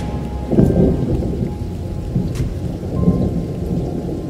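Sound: thunderstorm with heavy rain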